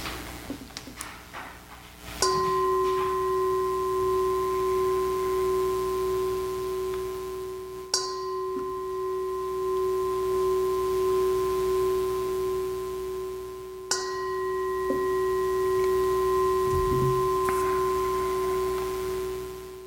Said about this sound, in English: And so, 3 chimes of the gong and a couple of seconds for Dick Lugar.